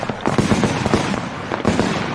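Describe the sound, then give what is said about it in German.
Fireworks crackle and bang in a rapid, dense burst of sharp pops, continuous and fairly loud throughout, like a string of firecrackers going off. “Das Knallen von Feuerwerk, für die einen gehört es einfach dazu, andere aber leiden unter diesen Emissionen, vor allem die Tiere.”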